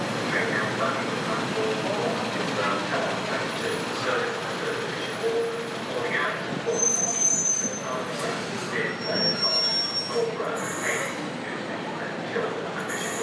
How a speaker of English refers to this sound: And we have the train. Is the train coming in on this side? Whitby.